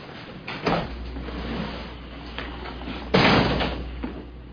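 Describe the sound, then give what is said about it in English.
A door being closed, with a softer bump early on and a louder, fuller thud about three seconds in, over a low steady room hum and no talking. “Close the door, lad.”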